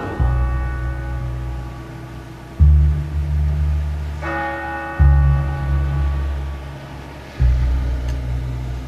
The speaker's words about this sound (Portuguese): O sino da igrejinha faz Belém, den, den.